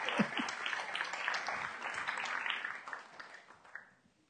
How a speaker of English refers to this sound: Folks, give my willing volunteers a round of applause.